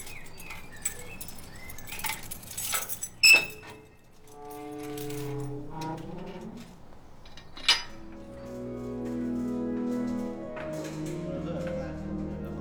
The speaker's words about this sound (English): I arrived early to hear a canticle of keys opening up the cathedral for me.